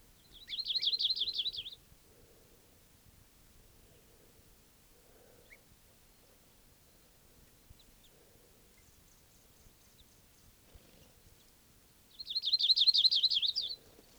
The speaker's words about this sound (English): Flock foraging around here. Alarm calls of a bird.